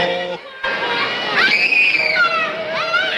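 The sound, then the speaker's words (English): A boy screams loudly and continuously for a few seconds as a big elf shoves him down the slide from Santa's lap at a store at Christmas, a high, strained wail that rises and wavers, with a brief dip early on before he cries out again. “The big elf shoves the screaming boy down the slide.”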